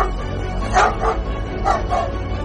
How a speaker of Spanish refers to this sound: su perro, empezó a ladrar.